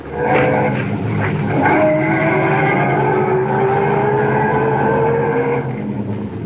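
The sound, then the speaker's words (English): A car engine roars and revs as the vehicle pulls away and drives off up the road, its pitch climbing steadily over several seconds of loud, continuous motor noise with no voices. “Get back in the car and head up the road again.”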